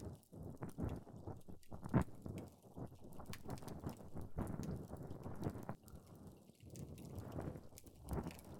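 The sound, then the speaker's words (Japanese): Close, intimate scraping and scratching of an ear pick inside an ear, a steady run of soft rasping strokes and small clicks with no voice, quiet but very near. “現に今、耳かきで眠くなっている方がおりますし、安眠効果があるというのは嘘ではなさそうですね。”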